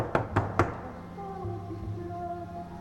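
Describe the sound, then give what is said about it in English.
Three firm, evenly spaced knocks with a fist on an apartment door in a hallway, fairly loud, then a low steady hum with faint tonal lines lingers in the background. “Julia stands outside the door and leans in. She raises her fist.”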